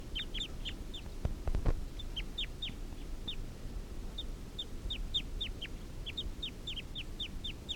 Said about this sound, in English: Recording, this is the wild male. And 3:38 here. Wild. Wild male's giving a clucking call.